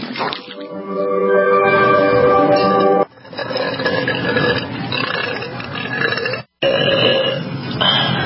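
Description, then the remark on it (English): A person burps onto zesty salsa: a long, loud, drawn-out burp rumbles for about three seconds, followed by more gurgling belching that trails on with a brief break before a final croaky burst. “Burp on your zesty salsa.”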